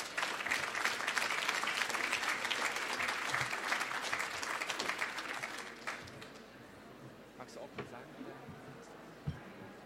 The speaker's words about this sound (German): Applaus bitte für die beiden.